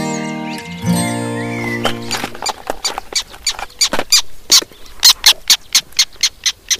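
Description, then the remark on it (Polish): A caught male black tern gives a rapid series of sharp, squeaky distress calls, repeating steadily and growing louder, after a brief tonal hum at the start. “Zdaje się, że złapała się rybitwa, tak?”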